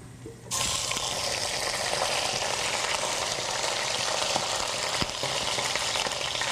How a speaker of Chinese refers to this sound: 然后用锅子的余热呢，我们先煎鸭子的这一面。